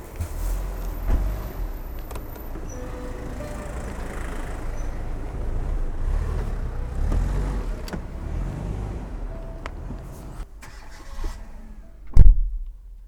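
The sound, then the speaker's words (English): Inside a car, a low engine rumble hums steadily with scattered clicks and mechanical rattles, quieting near the end before a single heavy thump. “And we are back in the solitude of the spy car.”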